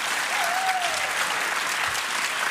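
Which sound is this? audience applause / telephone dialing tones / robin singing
audience applause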